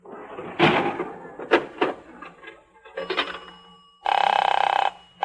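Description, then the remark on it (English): A few clattering knocks and rattles, then a loud telephone bell rings in one steady, jangling burst lasting nearly a second as a call is put through to Camelot, with no one talking. “Number forsooth. Camelot 96163. Ringing Camelot”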